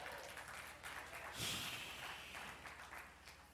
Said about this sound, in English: Can you clap for these kids as well?